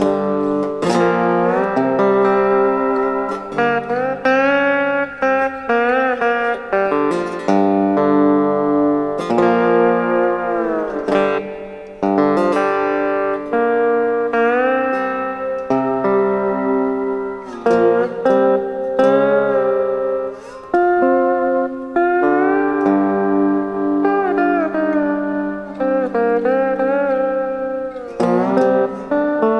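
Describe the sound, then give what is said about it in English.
Electric guitar with a Fender-style tone, drenched in reverb, plays a steady run of chords and single notes, each decay smearing into the next. Fairly loud and continuous throughout, with no voices. “You know, with lots of reverb.”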